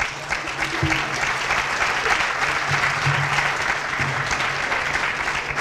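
audience applause

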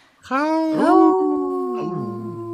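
wolf howling

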